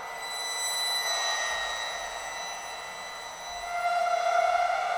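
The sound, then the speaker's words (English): Bowed bronze cymbals ring out in a sustained, shimmering metallic drone of stacked high overtones, swelling louder near the end as a lower tone bends and wavers in pitch while a cymbal is bent as it is bowed. No voices are heard. “I'm doing it by bowing some bronze cymbals.”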